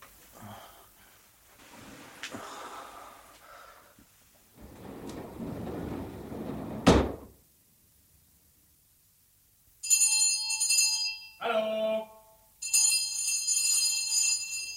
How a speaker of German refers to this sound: Wozu läutet man, wenn die Tür offen ist?